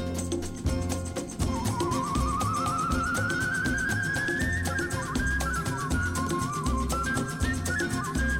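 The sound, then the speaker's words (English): A person whistles in a bird-like way, a long slow rising glide followed by wavering, warbling notes, playing over a dense, steady rhythmic music track. “So that's whistling. It sounds like a flute. I know, that's a human. It sounds like a bird.”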